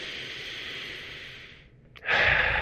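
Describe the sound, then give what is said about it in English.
A long, airy breath drawn in, a brief pause, then a louder, fuller exhale rushing out. Single breath cycle, no talking. “Breathe in again. And exhale.”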